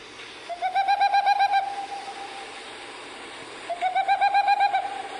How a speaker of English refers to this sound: So this is a little taste of what, you know, if I were looking for the Civita Capo Grosso Boreal Owl, this is what I'd hear when I played my smartphone.